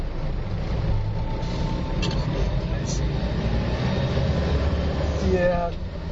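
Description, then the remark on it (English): A large truck transporting three elephants, two of them babies, rumbles along the road right in front, its heavy engine and tyre noise forming a steady, continuous low drone with no breaks. “There are three elephants being transported inside of a big truck that's right in front of me.”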